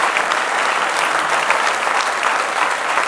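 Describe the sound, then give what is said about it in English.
A large group claps steadily and loudly throughout, giving God a hand clap of praise in the morning, a dense, sustained wash of applause with no pauses or individual voices standing out. “Just give Him a real good hand clap of praise this morning.”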